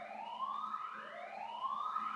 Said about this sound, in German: Sollte mich das jetzt irgendwie beunruhigen? Nein. Alarmanlagen. Kein Mensch hört auf Alarmanlagen.